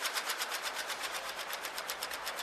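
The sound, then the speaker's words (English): A Solari split-flap train departure board flips in a rapid, steady clatter of tiny clicks, fairly loud, running continuously with no voices. “A lot of us here in the newsroom are feeling nostalgic for the Solari board and great train trips we've taken.”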